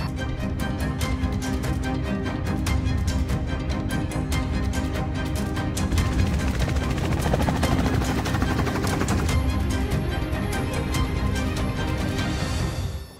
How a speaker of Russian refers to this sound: Вот сейчас мы управляем вертолетом с отказавшим, условно отказавшим двигателем. Как видите, управление сохранено.